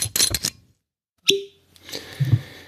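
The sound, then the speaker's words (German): A cork is pulled from a bottle of Highland Park 12-year-old Scotch whisky from the Orkney Islands with one sharp, hollow pop after a brief silence, surrounded by rustling and handling noises and a couple of soft knocks. “Bei mir gibt es einen Korken im Gegensatz zu dir. Bei mir gab es nur einen Schraubverschluss auf einer Jeansflasche.”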